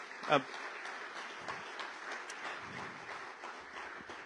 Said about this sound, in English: But so give a good round of applause for our dear friend